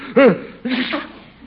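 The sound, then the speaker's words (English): A single fairly loud sneeze from a person who has caught a cold: a short voiced "ah" rising and falling, then a brief pause and a breathy, noisy burst that trails off. No one talks. “Yeah, guess I caught cold wandering around the reservoir last night.”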